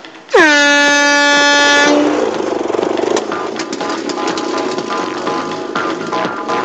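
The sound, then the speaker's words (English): A loud, steady air horn blast sounds for about a second and a half to signal the start of the Tunnel Rats' speed test, then gives way to a continuous busy, rumbling clatter of noise. “Tunnel rats, go on the sound of the horn!”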